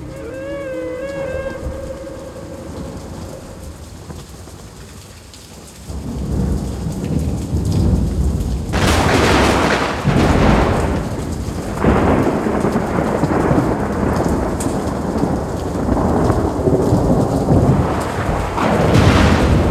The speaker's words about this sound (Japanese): 雨、止まないわね。